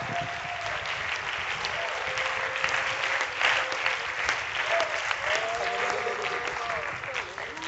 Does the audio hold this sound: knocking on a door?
no